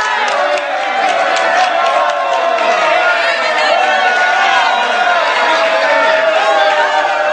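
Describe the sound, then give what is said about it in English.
A loud, rowdy crowd at the AIPAC convention yells and clamors continuously, with overlapping shouts and agitated voices as protesters are confronted and one is yanked to the ground by his tie, sustained at a steady high level throughout with no single clear speaker. “The AIPAC crowd got quite violent.”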